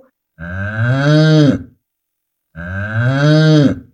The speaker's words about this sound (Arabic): إنها بقرة. إنها بقرة. هل تصدر البقرة صوت نعم، صوت البقرة مو. صوت البقرة مو.